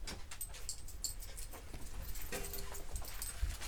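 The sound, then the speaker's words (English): A dog, Barker (Vespa von Barker), pants rapidly and steadily as it is let in, short breathy puffs repeating over soft background noise, with a faint clink or two in the higher range and no one talking. “Let me let these animals in and out.”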